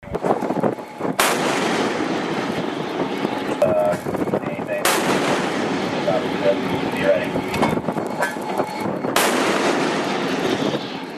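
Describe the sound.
A 5-inch MK-45 gun on the United States Navy destroyer USS Spruance fires three heavy, sharp blasts about four seconds apart into the engine room of the vessel Tosca, each cracking loudly above a constant roaring background with faint muffled voices.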